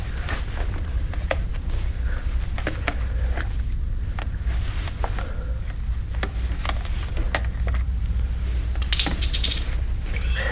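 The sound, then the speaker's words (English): Snow crunches in irregular, crackly bursts, some sharp and some softer, over a steady low rumble. No one speaks. “I think you can probably hear the crunching of the snow.”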